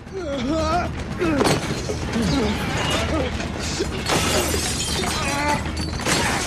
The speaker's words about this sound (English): In the ensuing struggle, all manner of glass chemistry equipment and even the odd computer monitor is smashed into smithereens.